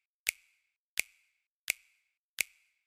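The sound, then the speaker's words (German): A crisp finger-snap sample loops through a music mix, repeating four times at an even, steady pace, each a sharp bright click with a short ringing tail, alone with no voices or other sounds. “Also, wir haben zunächst einmal diesen einen Klatscher hier, der hier die ganze Zeit durchgeht, diesen Schnipser.”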